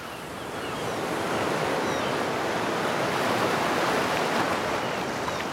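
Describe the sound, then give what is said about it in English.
A steady whooshing exhale, a voice imitating the rush of ocean waves with breath, swelling in and holding for several seconds with no talking; an ocean breath let out through the open mouth as the hands come down. “Make a sound like the ocean.”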